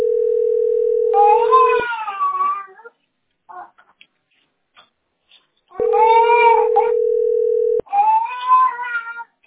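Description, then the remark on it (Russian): Two bouts of high, wailing infant cries, each starting as a steady electronic tone cuts off, with a quiet pause between them; fairly loud, no talking. “Ну что ты плачешь?”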